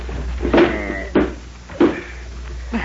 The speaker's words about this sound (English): That's it. Put the bed against the door. Here, I'll give you a hand. Right over there.